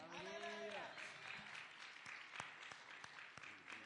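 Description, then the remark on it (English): A crowd claps hands in a dense, sustained burst of applause, with sharp individual claps standing out and a voice briefly calling out over the start before the clapping carries on alone. “Come on, clap your hands for that.”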